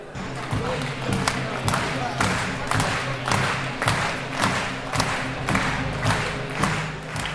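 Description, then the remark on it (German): A crowd at the German A-youth freestyle wrestling championship, hosted by ASV Schwäbisch Hall, claps in steady unison as the finalists march in, about two to three beats per second over loud music with a heavy, droning low end. The clapping stays strong and even throughout. “Wir begrüßen sie dann, wenn die Musik läuft, in einem herzlichen rhythmischen Applaus.”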